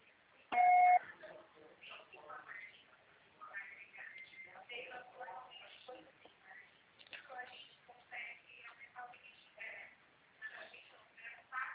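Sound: voicemail beep tone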